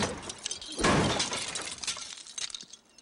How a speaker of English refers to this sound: They're broken. Chris smashed the taillights on the back of Jay's car.